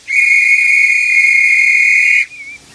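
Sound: whistles being blown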